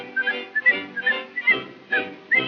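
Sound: whistling a tune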